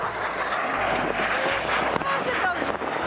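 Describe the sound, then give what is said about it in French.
A loud, continuous roar of military fighter jets rushing past at eye level through Rainbow Canyon, an air force training area, the broad engine noise filling the whole stretch, with faint voices buried underneath. “Les enfants ont été assez surpris et la plus jeune un peu terrifiée, et on a vu ces fameux avions de chasse passer devant nous à hauteur de regard dans le canyon pour une vision assez impressionnante.”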